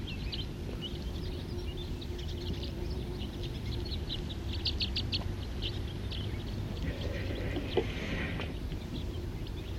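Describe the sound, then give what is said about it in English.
A mixed flock of crossbills and siskins calls continuously, with many short, high chips and twitters overlapping at a moderate level over a steady low rumble. “Right now there's a mixed flock of crossbills and siskins.”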